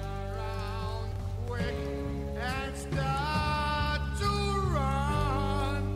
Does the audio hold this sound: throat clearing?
no